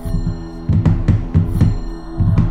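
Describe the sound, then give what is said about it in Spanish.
Fingertips drum on a tabletop in a loose rhythm, quick clusters of soft, dull taps separated by short pauses, over a steady low hum. “Típico sonido de tamborileo con los dedos sobre una mesa.”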